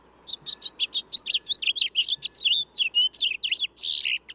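Birds chirping in a busy, overlapping stream of short, high-pitched tweets and trills, fairly loud and continuous, with no voices.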